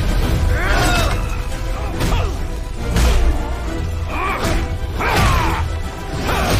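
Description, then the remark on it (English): Loud, chaotic machinery explosions and sharp cracking bursts of pressure gauges hit every second or so over a constant roaring din in a factory filling with fire and smoke, dense, with metallic smashes layered throughout. “As Batman and the Riddler fight along the gantry, pressure gauges crack and more machinery explodes, filling the factory with fire and smoke.”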